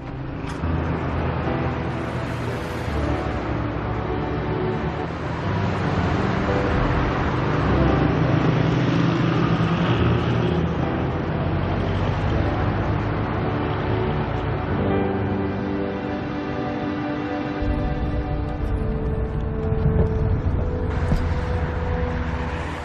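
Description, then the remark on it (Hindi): A car being driven toward an office moves steadily along a road, its engine hum and tyre rumble forming a continuous, fairly loud drone that holds even from start to finish, with no voices. “Madam, गाड़ी अपने office की तरफ ले ले।”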